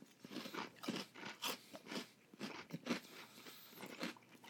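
Loud crunching as something crisp is bitten and chewed, with a steady rhythm of sharp crackly bursts about every half second and no talking.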